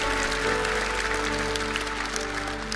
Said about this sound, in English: So once again, let's give all of our first-time guests a big round of applause.